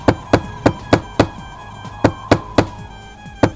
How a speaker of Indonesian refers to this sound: Mereka berduyun-duyun mendatangi rumah Lut untuk menjamah tamu-tamu Lut. Mereka berkumpul di depan rumah Lut dan menggedor-gedor pintu.